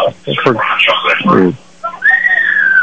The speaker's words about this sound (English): Two receivers to the right, two to the left, and now we got another whistle here.